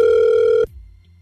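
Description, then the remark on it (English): A steady electronic ringback tone of an outgoing phone call placed by radio hosts buzzes loudly for just over half a second, then cuts off abruptly, leaving a faint low line hum. “We're going to call her right now.”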